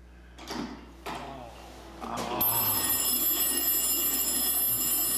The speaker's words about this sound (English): So last one. Sorry. A school bell. What do you think?